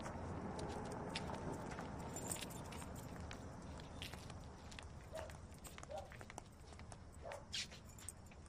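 A woman's footsteps crunch steadily over a rough surface as she walks towards a bungalow, a continuous gritty shuffle with a few sharper metallic clinks and jangles scattered through it. No one speaks.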